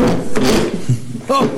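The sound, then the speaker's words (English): A foot stubs its toe on a wooden chair with a dull knock, followed by a second clatter and a brief vocal sound amid background noise. “Oh, ow, I just stuck in my toe with a chair.”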